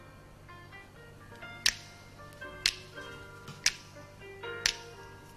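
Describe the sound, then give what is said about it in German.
Four crisp finger snaps in a 1967 song recording land on a steady beat about a second apart, standing out sharply over soft, sustained music with no one talking. “Da schnippen sie ein bisschen.”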